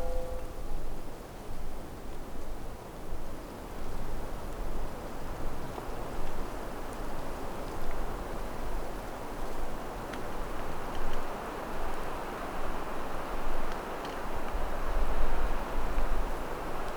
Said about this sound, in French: Il y a ce vent et ces moments de silence. Le paysage sonore se régénère. Parfois paisible, parfois brutal.